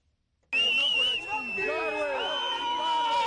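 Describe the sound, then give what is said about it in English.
A crowd celebrating in the streets of Harare, Zimbabwe, after President Robert Mugabe resigned, cheers loudly with a shrill, sustained whistle cutting through, plus overlapping shouts and a dense babble of voices. It bursts in suddenly after a brief silence and stays loud throughout. “Cheering crowds raced through the streets of Harare as news spread that President Robert Mugabe had resigned after nearly four decades in power.”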